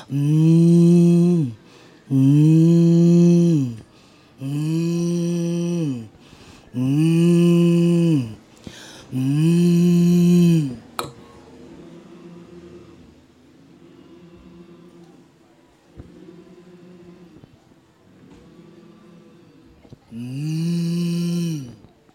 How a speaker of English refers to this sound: I want you to be aware of the air and the buzzing and the warming up of your throat box. It's all part of breathing and healing. Take that buzz into a hum.